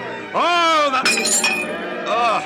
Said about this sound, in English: You broke your glass. I'm sorry. Sorry, don't be. There are plenty more goblets and wine